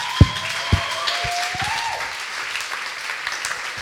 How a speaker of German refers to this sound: Ja, also ich denke, das ist wirklich, lasst uns ihnen mal einen Applaus geben.